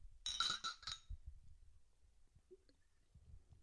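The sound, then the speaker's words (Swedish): A few quick glass clinks ring out close together near the start of a toast, bright and chiming, then fade into quiet with faint low rumbles and soft handling noises. “ska vi ta en skål för Champagne Charlie? Ja, skål. Skål.”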